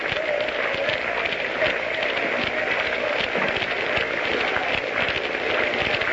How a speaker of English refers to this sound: The crowd is beginning a sort of a half-hearted hand clapping.